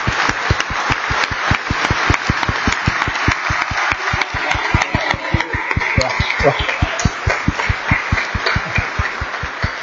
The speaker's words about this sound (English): if you can relay that applause, but they'll get it again after it's over. I can promise you that.